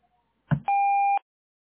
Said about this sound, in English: The voice messaging service has not detected a message. Please start recording your message after the tone.